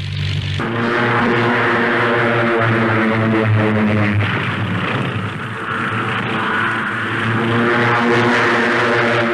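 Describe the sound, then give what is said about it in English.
A propeller warplane carrying eight rocket projectiles, four under each wing, roars loudly and steadily, its droning engine joined by sudden broad rushing blasts as rockets are fired, briefly dipping before the engine noise swells again. No one speaks. “One plane carries 8 projectiles, 4 under each wing. They can be fired separately or in one devastating salvo.”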